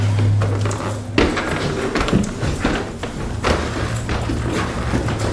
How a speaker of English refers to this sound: And the film early on depicts you inviting viewers into your home, and it's a long, hard climb, literally, and the viewer sees you walking up a narrow, creaky set of stairs.